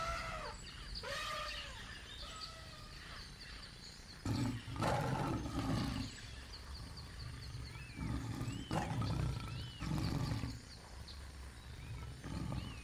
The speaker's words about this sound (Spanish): ¿Y este que aparece ahora? Sí, es un león.